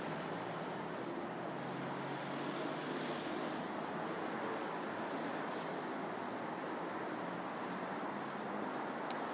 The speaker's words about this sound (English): Traffic, as you can hear, is moderate.